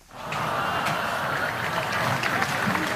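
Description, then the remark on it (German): A crowd bursts into steady applause as a large red cloth is pulled off a glass pane at the ceremony at the panda enclosure for the new Berlin pandas Meng Meng and Yao Qing. Dense clapping holds at an even loudness for several seconds, with scattered laughter and voices mixed into the noise. “Als das große rote Tuch von der Glasscheibe gezogen wurde, Lachen und Applaus.”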